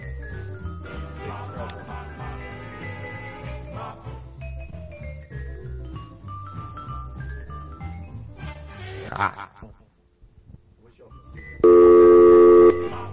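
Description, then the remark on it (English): A loud, steady electronic touch-tone beep from a telephone keypad, about a second long, sounds near the end, after a stretch of muffled tonal music and background sound. “Actually, this phone gets a little tricky at this point. This thing's on hold. Now how do we do it?”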